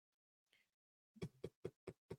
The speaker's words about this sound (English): I'm knocking on Jokic's door. Hi, it's Malone. It's Coach Malone.